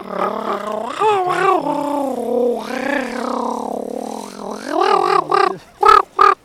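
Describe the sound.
A human voice imitates a raven, first with long, wavering, croaky tones, then a quick run of short, harsh caws that break off sharply at the end. No words are spoken.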